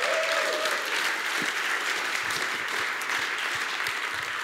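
Sustained applause from an audience for a young woman after her video clip is shown, a dense, steady wash of many hands clapping at once that fills the whole stretch without letting up, with no one speaking over it.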